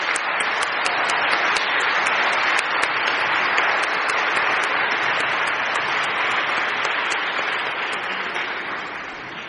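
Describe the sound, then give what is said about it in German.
A crowd applauds the children from the Kita Prinzenstraße daycare steadily, a dense wash of many hands clapping at once, holding strong for most of the stretch before slowly tapering off at the end. “Ich glaube, wir dürfen noch mal für euch klatschen.”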